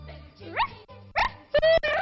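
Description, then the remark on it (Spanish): A person imitates a dog, producing a few short, strained bark-like yelps and a drawn-out whine, moderately loud, with brief pauses between sounds. “Ese perrito parece jubilado. Parece de 70 años”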